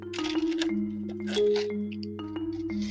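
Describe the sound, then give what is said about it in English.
Wet sipping and slurping sounds of someone drinking water come in short bursts with small mouth clicks, set over a steady, low humming tone in the background; recorded in a hospital. “Excuse my pauses in between, because as I'm sipping on water and eating vanilla pudding, I'm actually recording this podcast while I'm still in the hospital.”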